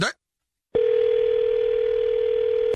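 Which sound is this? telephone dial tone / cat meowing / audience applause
telephone dial tone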